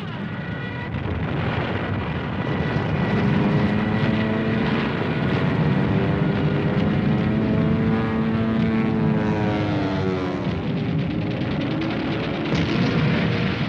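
A B-25 bomber's propeller engines roar loudly and steadily throughout, their droning pitch shifting and climbing partway through as the plane, loaded with bombs, takes off from an aircraft carrier. No one speaks.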